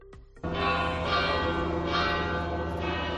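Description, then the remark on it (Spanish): The large bells of Pamplona Cathedral ring out loudly and continuously after the white smoke announcing a new pope, their overlapping rich tones swelling in repeated strokes with a long resonant hum, after a brief quiet moment at the start. No voices are heard. “Así sonaban las campanas de la Catedral de Pamplona tras la fumata blanca.”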